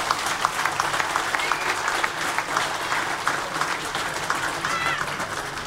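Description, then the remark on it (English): Sustained audience applause, a dense wash of many hands clapping at steady volume with no break from a large crowd in Tralee, Kerry, a round of applause for the outgoing chairperson of Kerry County Board. “So a huge round of applause for Patrick O'Sullivan, whose term comes to an end at the finish this year.”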